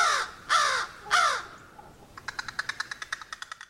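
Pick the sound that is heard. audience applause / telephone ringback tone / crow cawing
crow cawing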